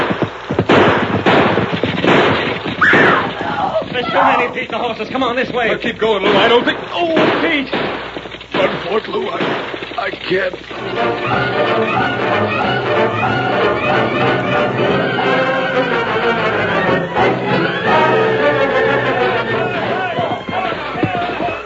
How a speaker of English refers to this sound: That gunfight has roused the whole town.